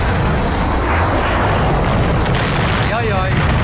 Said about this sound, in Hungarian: Na várjál, hát én egy dolgot tudok előszörre, bemelegítésnek egy szőnyegbombázást, várjál?